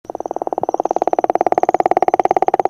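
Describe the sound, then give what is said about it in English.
A gopher frog in Florida gives a long, steady creaking call, a rapid train of evenly spaced pulses like a slowly opening door hinge, loud with no other sounds around it. “The call it makes sounds like the creaking of a door in a haunted house.”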